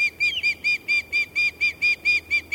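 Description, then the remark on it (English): Osprey giving a rapid series of about a dozen high-pitched, piercing whistled calls, evenly spaced and steady in rhythm, fairly loud with no voices present. “Their relatively high-pitched calls are seemingly at odds with these birds' robust general impression.”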